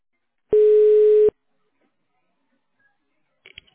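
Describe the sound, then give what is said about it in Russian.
A single telephone ring tone during a phone call, steady and mid-pitched with a buzzy edge, sounds for under a second and cuts off abruptly as the call drops, leaving silence broken only by a few faint clicks. “То есть один гудок пошел, и все сразу потом.”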